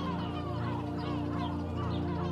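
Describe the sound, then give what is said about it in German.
A dense chorus of hundreds of gulls calling from a breeding colony on the sandbanks of a beach, many overlapping squawks and rising cries blending into a continuous, steady din with no pauses. “Hunderte Möwen haben es sich hier gemütlich gemacht.”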